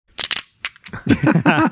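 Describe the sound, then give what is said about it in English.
Casino chips kept on a desk clack together in a few sharp, bright clicks, irregularly spaced, as they are shuffled in the hand for practice, before a voice starts talking over the end. “Those are my desk chips that I keep in the hand so I can practice shuffling chips, casino chips in my desk.”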